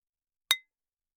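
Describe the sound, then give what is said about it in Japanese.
A single bright clink of ceramic, glass and metal sake bottles (tokkuri) striking each other, a sharp tap with a short ringing tone that fades within a fraction of a second, heard alone with no voices. “陶器のとっくり、ガラスのとっくり、金属製のとっくり、ほら、うちはいろんなとっくりがたくさんありますから。”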